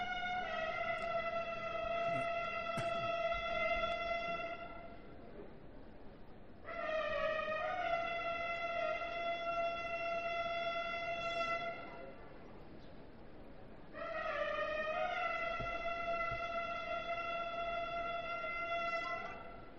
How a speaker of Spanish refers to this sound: Bueno, pues estamos escuchando los famosos carros bocina. Les dejamos con este sonido.